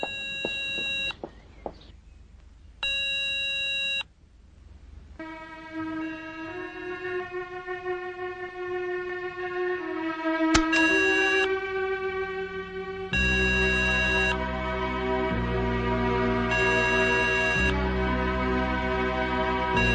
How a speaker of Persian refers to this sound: لیلا در داخل ماشین با تلفن شماره ای را میگیرد